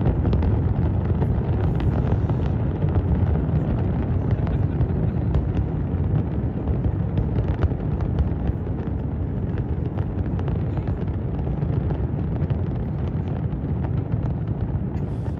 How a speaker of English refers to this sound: But after MAGA supporters went through all of this chaos, they finally arrived at the fireworks show, the long-awaited Guinness World Record-breaking fireworks show that Donald Trump spent a bunch of taxpayer money on. And this is how it looked.